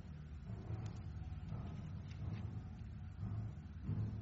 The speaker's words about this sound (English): Nothing like muscle cars.